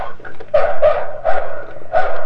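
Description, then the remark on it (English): A toy, worked by pulling it way back, plays a recorded dog barking: four short, bright yips in an uneven rhythm over about two seconds, fairly loud with a thin, tinny electronic tone. “Oh, you just do the doggies.”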